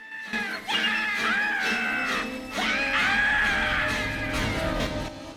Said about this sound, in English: Someone's in the shower behind an opaque plastic shower curtain. Kate's shadow looms over the curtain as she gets ready to pull it aside. Bugs is in the shower. He screams at Kate, who rolls her eyes.